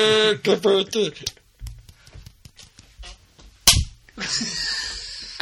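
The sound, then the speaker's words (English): A single sharp hand slap from a high-five rings out partway through, surrounded by playful vocal noises and a few softer taps from people fooling around. “don't you ever make fun of my slapping our hands together”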